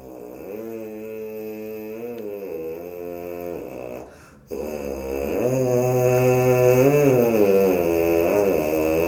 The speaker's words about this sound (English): In other words, what does it sound like just our lips buzzing the way that we do? So I'll actually do something on the mouthpieces to show what that would sound like.